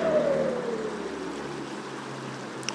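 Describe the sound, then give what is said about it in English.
A car drives past over a small bridge on the dividing line between Galway and Mayo, its engine tone sliding downward as it goes by over a steady wash of rushing background noise, then fading into the constant hiss. “In case you're wondering, they do have cars through here.”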